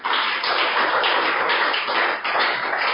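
A crowd at a JCCF meeting held with Youth with Vision claps steadily for the JCCF leadership for about three seconds, a loud, dense wash of overlapping hand claps with no voices.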